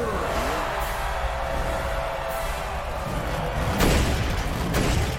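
A heavy truck engine rumbles loudly, revving harder toward the end with two sharp surges as the vehicle pulls up, no one speaking over it.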